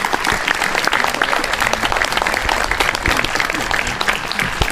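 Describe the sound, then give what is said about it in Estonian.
A large audience claps steadily, a dense, continuous patter of many hands that stays loud and even throughout without pause. “Riio lõpetas ja mõistagi publiku aplaus.”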